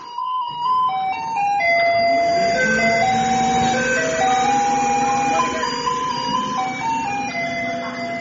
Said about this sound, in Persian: حتی در تایوان فور الیز یکی از آهنگایی که از کامیونای زباله پخش میشه که به مردم خبر بده بیان پایین زباله‌هاشون رو تحویل بدن.